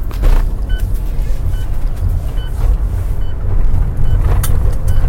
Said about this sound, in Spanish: vamos a ponernos el cinturón, porque si no, no va a parar de chillar la campanilla. Un segundo.